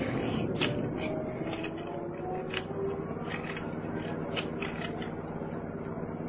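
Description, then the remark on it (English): A car window being cranked up as a storm arrives, a steady mechanical grinding with quick ratcheting clicks over a low engine hum, fairly quiet, with no one talking. “Wind up the window.”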